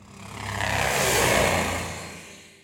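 A helicopter sound effect plays as the Pocket Copter flies around: a dense whirring engine roar swells to a peak and then fades away over a few seconds, with no voices.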